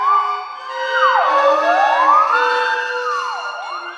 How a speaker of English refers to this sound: The third movement is called Flugelhorn, and it addresses the alarm definition of siren. It's comical, the theremin glissandos all over the place, and in the middle, the orchestra itself becomes a theremin.